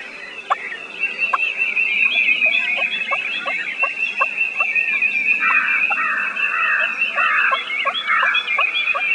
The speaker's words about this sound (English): It's a turkey tree call.